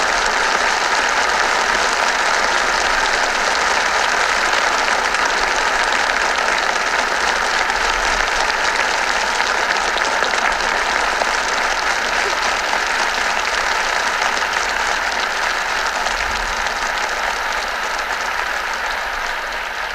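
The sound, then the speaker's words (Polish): Sustained, loud applause from a large crowd at a speech on the Polish sea coast, a dense, steady wash of clapping that continues evenly for the full twenty seconds with no talking over it. “Bardzo Wam dziękuję za te oklaski.”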